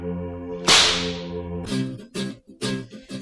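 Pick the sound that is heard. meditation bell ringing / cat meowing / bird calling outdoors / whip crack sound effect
whip crack sound effect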